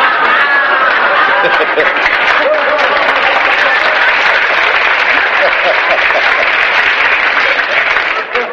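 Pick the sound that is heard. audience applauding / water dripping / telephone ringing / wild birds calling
audience applauding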